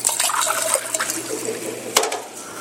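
Water pours steadily into a container for a few seconds, a splashy gurgle with a brief sharper splash near the end. No one speaks.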